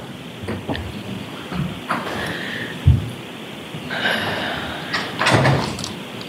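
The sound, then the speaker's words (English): In a courtroom, a chair is dragged away from a podium with a few rough scraping pulls, a dull thump partway through, and a final louder scrape over a steady hum. “I'm going to go to the podium and your chair is there. Mr. Brennan, can you remove? Oh, okay. It's being removed.”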